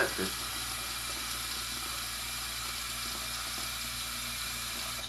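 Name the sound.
water running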